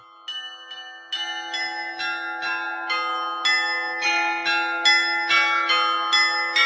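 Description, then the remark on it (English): Bells in Prague, an instrument of 27 bells cast in Amsterdam by bell founder Claude Frémy and inaugurated in 1695, ring out in a quick, steady succession of struck tones, each note sustaining and overlapping the next to build a bright, resonant melody. No voices accompany them. “a special program on the many bells of the city of Prague”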